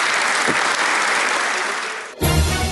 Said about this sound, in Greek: Και ακολούθησε, Γιώργο, πολύ θερμό χειροκρότημα.